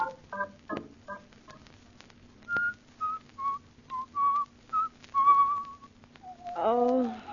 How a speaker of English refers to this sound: Oh, stop whistling that turkey in the straw.